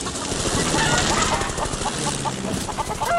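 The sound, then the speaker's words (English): Chickens cluck and squawk in a busy, overlapping burst as a flock by a chicken house is scattered by dogs running straight through it, with scuffling noise underneath, steady throughout. “Drover, chicken, on my mark. Mark!”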